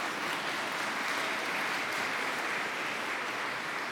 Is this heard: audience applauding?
yes